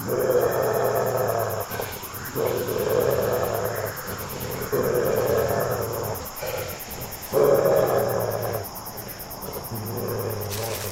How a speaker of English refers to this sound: Growling?